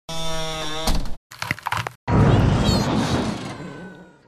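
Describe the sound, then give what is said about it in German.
A sustained ringing tone ends in a sudden crash of shattering window glass, followed quickly by brittle crunching cracks and then a loud, roaring blast that slowly fades. No one speaks. “Fenster, Knochen, Explosion.”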